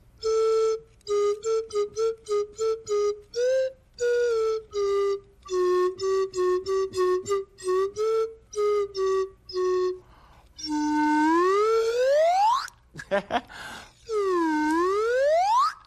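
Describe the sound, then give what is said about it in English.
A slide whistle plays a bouncy tune of short, steady tooting notes, then swoops in long rising glides and a dip-and-climb slide, all loud with no talking. “So it's called a slide whistle. If you move the slide, the sound changes.”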